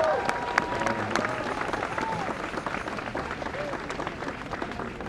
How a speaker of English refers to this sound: Round of applause for